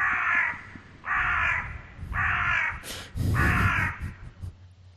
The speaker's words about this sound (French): J'attends ton jingle, là. Corbeau.